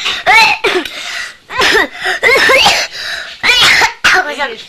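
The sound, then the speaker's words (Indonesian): A run of about six loud coughs from a person sick with a cough, in quick irregular bursts, each harsh and partly voiced, with brief gaps between them and no talking. “Aku sakit batuk.”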